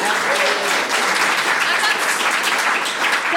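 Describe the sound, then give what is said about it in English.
Audience applause for the winning team of a quiz fills the whole stretch, a steady dense wash of many hands clapping at an even loudness, with a faint voice briefly audible underneath. “You should give yourselves a big round of applause.”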